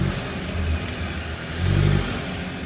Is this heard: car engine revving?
yes